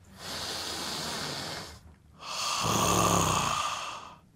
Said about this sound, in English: The power of belly breathing. Ready? Yeah.